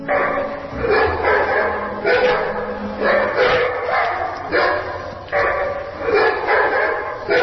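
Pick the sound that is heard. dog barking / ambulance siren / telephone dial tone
dog barking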